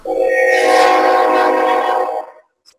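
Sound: train passing with horn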